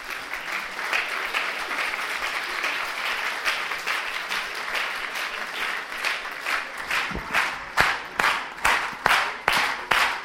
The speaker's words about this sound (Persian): تشویقشون کنیم بیان بالا.